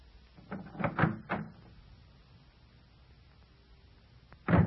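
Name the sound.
door being opened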